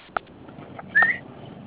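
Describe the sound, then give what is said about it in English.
Two short electronic tones, like keys pressed on a phone keypad: a quick blip, then a slightly longer, higher beep a moment later, fairly soft against a quiet background. “Which one of y'all live with your mama and she on the phone dialing somebody?”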